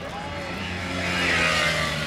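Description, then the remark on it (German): A car engine revs and grows steadily louder as the vehicle pulls up, its low droning tone rising toward a peak before easing slightly. “Was ist denn das für ein Wagen? Komm, steig ein.”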